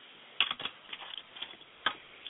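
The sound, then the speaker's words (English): Quiet, irregular keyboard clicks of a panelist typing in the background of a call line, a few sharper keystrokes standing out, with no voices present. “And I hear him typing in the background, so I will proceed.”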